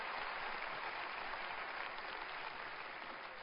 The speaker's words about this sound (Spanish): Todos los campeones aplaudan fuerte esta tarde.